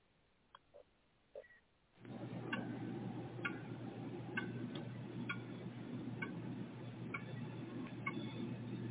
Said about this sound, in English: A dreaded sound of tick-tock from the last vintage clock ticks behind the hollow walls beneath the midnight moon.